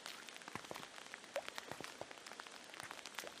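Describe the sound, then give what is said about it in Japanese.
Steady rain pattering onto a hard surface, with dense, irregular droplet taps spread across the whole stretch at an even level, no voices present. “先生は雨好き？”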